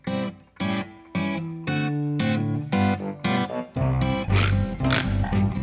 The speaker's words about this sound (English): That's a pig.